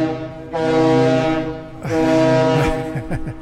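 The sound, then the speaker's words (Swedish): A deep, loud ship horn blasts twice in Visby harbour, each a long sustained tone of about a second and a half with a brief pause between, the second ending with some rumbling and faint background noise. “Tuta här lite i Visby hamn.”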